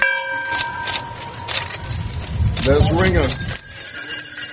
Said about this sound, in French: Ces cloches ont résonné pendant 4 minutes en mémoire des 4 siècles qui séparent les États-Unis du début de l'esclavage sur son sol.